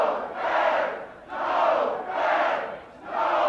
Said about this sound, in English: We were sitting here in my office when we heard the crowd out in the city square. So the town had turned out to protest?